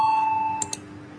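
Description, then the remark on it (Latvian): A vote-call bell in a Latvian parliamentary session, rung before voting on the 4th proposal to a bill: a steady, mid-pitched electronic tone holds for about half a second, then cuts off into two quick, bright strikes in succession, with no talking. “Lūdzu zvanu, balsosim par 4. deputātu Budrika Kūces Znotiņa priekšlikumu.”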